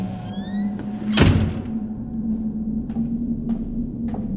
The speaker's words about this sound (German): Schon bald hörte er von unten die Eingangstür knarren.